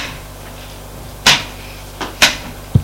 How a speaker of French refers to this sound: Salon. S'assoit sur des chaises.